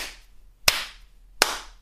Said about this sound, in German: Und zwar eine sehr simple Übung wäre das Klatschen. Und das klingt erstmal sehr, sehr seltsam. Ich mache es jetzt mal.